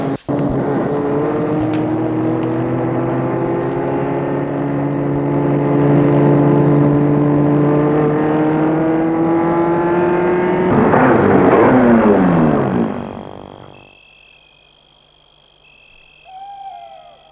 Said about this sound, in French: Arrivé à Versailles, il suit une petite route départementale qui s'enfonce dans la campagne. Et là, il va arrêter la voiture devant dans une petite rue où il n'y a que des petites maisons.